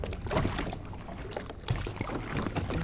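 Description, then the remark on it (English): Oars dip and pull through water in a steady rhythm as a small firefighters' rowboat is rowed across the lake of a cistern in Paris, with soft splashes and trickling drips, no voices present. “We're going to use one of the firefighters' boats. We're rowing across the lake?”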